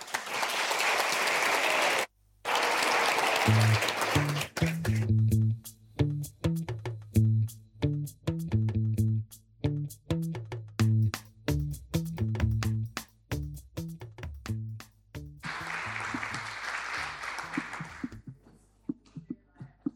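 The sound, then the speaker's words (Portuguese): A crowd on the arrival platform of Rocio station at 6:20 in the morning breaks into loud, dense applause, then claps in a steady rhythm beneath voices chanting in time, before another sustained burst of applause and a quieter fade at the end. “E nós, na estrada e no cais, com um sorriso, uma flor, palmas e uma frase para elas.”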